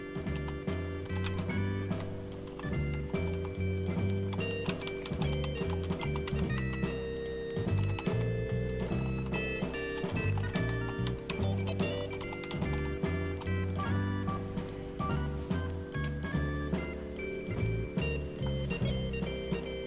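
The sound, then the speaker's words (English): Rapid, irregular keyboard keystrokes click along as a radio host types under a loud soul 7-inch record with steady bass and horns, the tapping blending into the music almost like extra percussion. “like percussion me typing along.”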